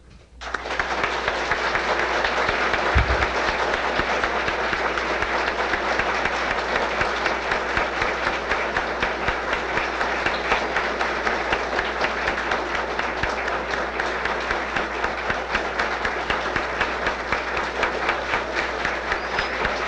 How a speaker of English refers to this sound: I don't know whether it's appropriate, and I don't know how you feel, but I feel like applauding.